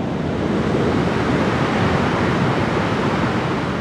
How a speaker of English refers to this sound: The water got within 5 feet of the top of the 600-foot-high Shasta Dam. Listen what happens as I peer over the edge at the spillway gates. Listen to this roar.